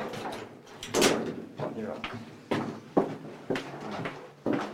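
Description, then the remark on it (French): A second armored door of a shelter being unlocked with a key and opened: a run of sharp metallic clunks and rattles, fairly loud, spaced irregularly over a few seconds with voices murmuring in the background. “Encore une clé. Encore une deuxième porte.”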